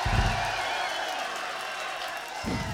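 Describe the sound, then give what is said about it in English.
The audience at the Marquee Club in London applauds and cheers during a live show in a steady, dense wash of clapping and crowd noise that stays loud for the whole stretch, with low rumbles at the start and end. “Now, last but not least, can we please have a really nice round of applause for the meanest, rowdiest, craziest fucking audience in the world.”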